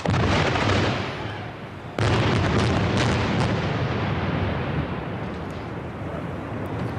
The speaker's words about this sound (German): Kurz vor 12 zuckten Blitze durchs Tal. Eine heftige Detonation erschütterte den Talkessel und aus der Bergflanke bei der Burgruine von Zwing-Uri quollen Rauchwolken.